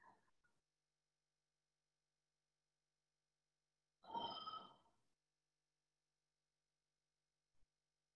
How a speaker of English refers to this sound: Oh, yeah, yawning and yawning.